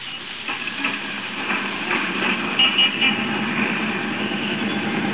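A number 5 city bus rolls along with a steady, continuous roar of engine and road noise, heard from on top of the bus while riding home, with faint rattles and no voices.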